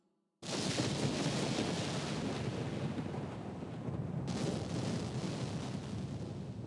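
A storm sound effect of thunder and lightning on an open plain: a heavy roll of thunder bursts in abruptly and keeps rumbling, loud and dense, with a stormy roar that swells again partway through and continues without any voices.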